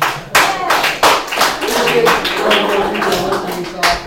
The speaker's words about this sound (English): So, right now, I want everybody to applause yourselves for showing up.